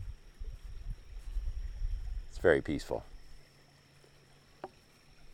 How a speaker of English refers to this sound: I'm down here at a little bridge that's about a half a mile north of our house. It's a pretty little stream. And of course, you can hear the water, I'm assuming.